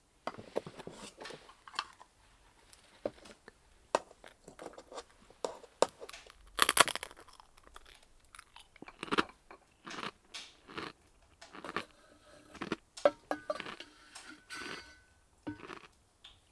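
Crisp, irregular crunches of someone biting and chewing tansan momiji senbei (carbonated maple-leaf rice crackers) served as a tea snack, with sharp brittle snaps between softer munching sounds, continuing steadily with no talking.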